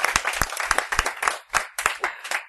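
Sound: applause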